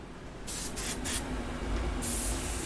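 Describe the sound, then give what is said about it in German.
Short bursts of hissing spray, three quick puffs followed by a longer steady blast, as a special clay slip that makes the pieces white is sprayed onto sanded Delft pottery (plates, tiles, vases and thimbles) over a low background rumble. “Nach dem Schleifen wird Tellern, Kacheln, Vasen und Fingerhüten ein geheimnisvoller Speziallehm aufgespritzt.”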